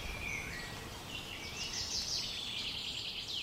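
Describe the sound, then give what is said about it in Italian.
Small birds sing continuously in high, warbling chirps and trills, fairly faint, over a steady low outdoor hiss with no voices, in the middle of the large granite quarry just outside the Mauthausen camp. “Si sentono gli uccellini cantare.”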